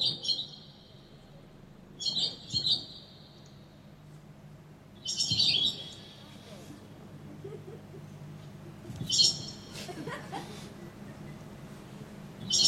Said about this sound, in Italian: Sorelle rondini, mo basta, eh? Qui bisogna ci mettiamo d'accordo. O parlo io o parlate voi? Ma come parlate voi? No! La devo fare io la predica, scusate. Allora, rondinelle, a me mi pare che voi avete già parlato abbastanza, o no? Adesso tocca a me.